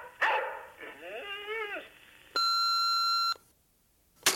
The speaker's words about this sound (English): We're going to be out of town for about a week, so leave a message after the beep.